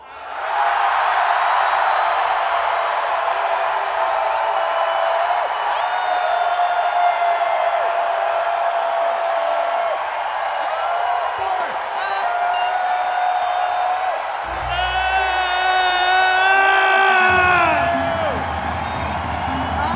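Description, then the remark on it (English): An audience yells and whoops together on a count, as loud as they can at full volume, a dense, sustained roar of many voices with a few higher shrieks rising out near the end. “Let's do the group holler, the group hoot, I like to call it. On the count of four, let's all yell as loud as we possibly humanly can, or if you're an alien, yell as loud as you can also.”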